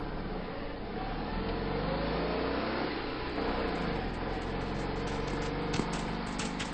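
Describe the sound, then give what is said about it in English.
A car engine revs and accelerates, its pitch climbing and shifting over several seconds as it drives off, loud throughout with no voices. “Glad I taught you how to drive.”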